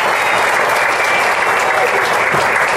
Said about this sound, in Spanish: Quiero saludar al concejal Gustavo Carmona, quien es miembro de esta comisión. Un aplauso para él.